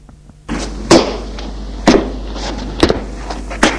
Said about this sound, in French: Il va ouvrir une porte de cave en bois.